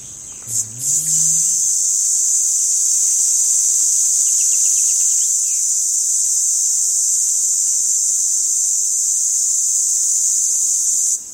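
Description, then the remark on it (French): The calling song of a male red cicada (Tibicina haematodes), calling to compete for females: a continuous, intense high-pitched buzzing drone that holds steady for the whole stretch, loud, with a brief low knock at the start. “Et donc on va aller chercher la cigale rouge, de son petit nom latin Tibicina hematodes.”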